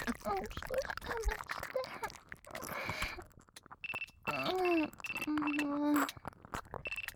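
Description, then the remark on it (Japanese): A phone rings with a call from the head nurse, a repeating high electronic tone and a short melodic chime, coming in after some soft talking at the start. “やば、看護部長だ。電話出るね。”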